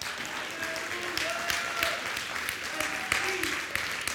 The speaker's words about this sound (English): Everybody give him a hand clap this morning.